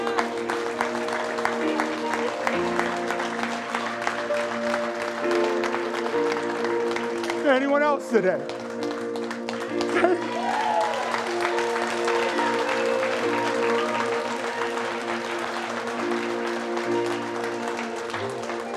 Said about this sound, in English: Listen, I was scared to raise my hand 18 years ago. But if I would have known that everybody was going to clap, I would have done it.